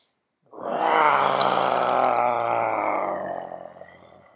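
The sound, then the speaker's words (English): A person lets out a long, loud, throaty roar imitating a lion while breathing out during a breathing exercise, a single sustained growling exhale lasting about four seconds before trailing off, with no talking. “And as you breathe out, roar like the lion.”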